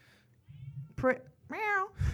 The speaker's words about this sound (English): My cat outside the door.